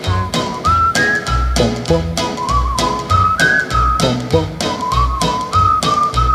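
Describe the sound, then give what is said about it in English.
A whistled melody glides up and down over a steady backing track with a thumping beat and rhythmic percussion, the whistling clear and prominent with no talking. “If only you'd come back to me, my lips would whistle a song in the hap, hap, hap, hap, happiest key. I'd whistle all day long.”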